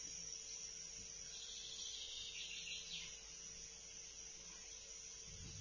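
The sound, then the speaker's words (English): A steady, faint chorus of grasshoppers chirps in a continuous high-pitched shimmer, swelling briefly partway through, with a soft outdoor hum underneath and no voices. “Become aware of the concert of the grasshoppers.”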